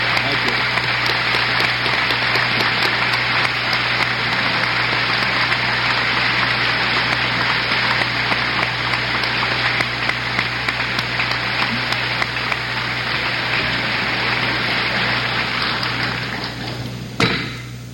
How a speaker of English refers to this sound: The President just turned and said, I think they've clapped long enough.